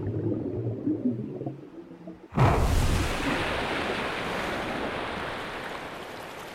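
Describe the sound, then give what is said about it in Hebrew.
After a couple of seconds of low murmuring, steady rushing water takes over, a continuous broad wash of spring water flowing into the shallow spring pool at the Ein Prat site on Nahal Prat, a stream that flows all year round, fairly loud. “המים נובעים כל השנה, ולכן נחל פרת הוא נחל איתן, כלומר נחל שזורם באופן תמידי, ולא רק בעקבות גשמים.”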